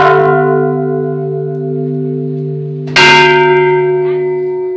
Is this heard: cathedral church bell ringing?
yes